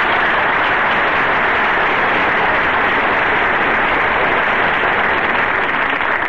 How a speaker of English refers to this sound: And, folks, I want to thank you for giving Don that big hand, because never has so little made so much so happy so fast.